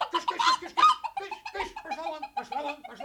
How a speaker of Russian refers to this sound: Это что такое? Это что такое? Почему курица в зале дворца?